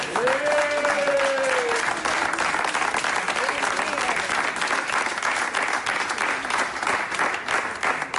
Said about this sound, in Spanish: pero él tiene ese cargo y para eso yo creo que se merece un aplauso.